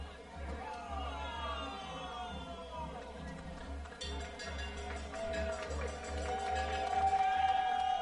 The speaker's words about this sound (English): Fans cheering as that ball came back off to the top of the roof. They caught it on the rebound.